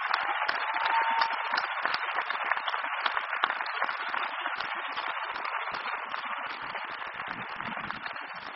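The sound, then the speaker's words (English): Sustained applause from a large audience at a McGill University graduation ceremony after a speech, a dense, steady wash of many hands clapping at a fairly even loudness for the whole stretch, with no voices standing out. “I think that applause says it all.”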